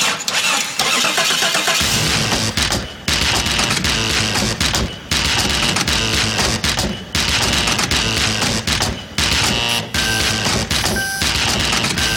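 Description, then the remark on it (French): A Jeep starter cranks and the engine catches, mixed with clunks of doors and a gear lever being worked, recorded through microphones placed around the car and fed to a mixing desk for Julian Smith's Techno Jeep; the loud mechanical noise broken by a few brief pauses. No one speaks. “Tout ce qui peut faire du bruit dans la Jeep, les portes, le cendrier, le levier de vitesse, les cliquets des ventilateurs, et puis bien sûr le démarreur.”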